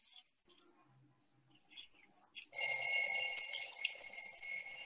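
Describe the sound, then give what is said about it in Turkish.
An alarm clock suddenly starts ringing again from inside a bathroom cabinet while a character brushes their teeth, a loud, steady, high-pitched electronic trill that continues unbroken after a few quiet rustles and faint clicks. “Banyo dolabının içinden alarmın tekrar çaldığını görüyoruz.”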